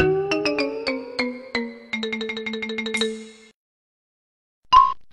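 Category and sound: signal or alarm, phone ringtone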